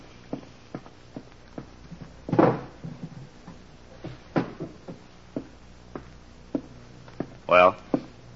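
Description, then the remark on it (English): The top middle drawer of a desk slides open with a short wooden scrape and rattle. Before it come scattered footsteps and light knocks, and a few brief louder scuffs. “In the top middle drawer of my desk. Inspector, will you see if it's there?”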